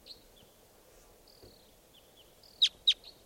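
A wild bird calls with two sharp, bright chirps in quick succession, preceded by thin, faint high whistles over a low, steady background hum. No one speaks.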